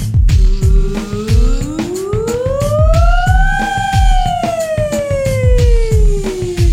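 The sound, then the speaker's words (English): A single voice sings a vocal siren exercise on "ooey oo", sliding smoothly up from low to high and back down on the sustained vowel, like a siren, over a steady thumping backing beat. “On these larger sirens, only go as high and as low as you can without straining.”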